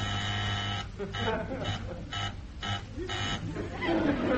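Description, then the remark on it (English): An office intercom buzzer gives a steady, harsh electric drone for under a second, then voices begin talking while a faint hum lingers beneath them. “You buzzed, Mr. Phillips? Yes, number one, I buzzed.”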